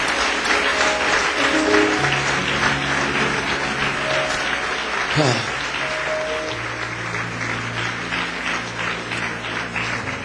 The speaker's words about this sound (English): Clap your hands and give God praise if you're still here.